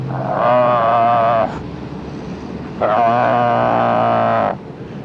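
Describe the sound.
A voice gives two long, loud, sustained howls in imitation of a wolf, each held steady with a slight waver and separated by a short pause with faint background noise.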